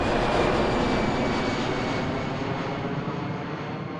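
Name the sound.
airplane landing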